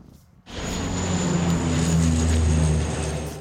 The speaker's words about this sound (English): Water dumping planes are being used for the first time ever in the areas surrounding Paris.